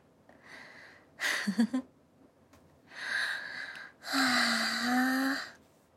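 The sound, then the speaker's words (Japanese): Several heavy, tired panting breaths a few seconds apart, the louder later ones breathy and partly voiced, like exhausted gasps and sighs with no talking. “疲れてるからはぁはぁばっか言っちゃう。”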